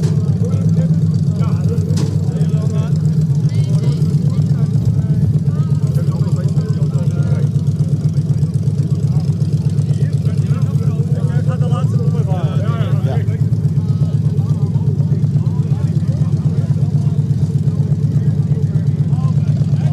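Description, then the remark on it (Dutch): Deep, burbling engines idle steadily and loudly for the whole stretch, a constant low throbbing rumble with faint voices murmuring in the background. “Ook dit natuurlijk is het heerlijke geluid van dat geborrel van die motors van de Rodeo.”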